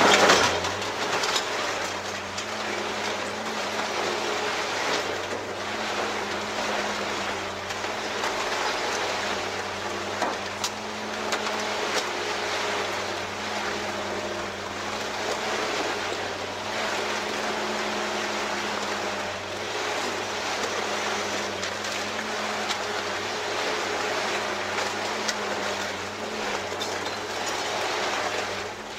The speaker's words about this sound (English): This is going to look like a toy car because of the scale. It's up close, and it looks like it's just this little car. But this is a full-size car going into a shredder. I love this.